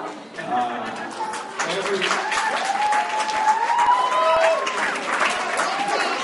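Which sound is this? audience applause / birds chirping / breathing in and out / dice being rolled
audience applause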